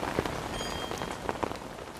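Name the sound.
rain falling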